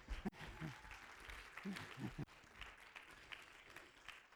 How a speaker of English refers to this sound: Give my patient a hand clap.